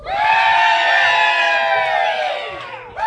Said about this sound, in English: We are in South Carolina again tonight, and we have a live audience in front of us. Could everyone out there give us a big rebel yell?